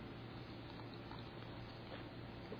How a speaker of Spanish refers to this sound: Y mover el agua en su boca por unos 8 o hasta 10 minutos, moviéndolo mucho en la boca.